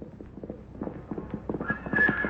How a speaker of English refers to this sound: Suddenly, he hears the sound of galloping hoofs.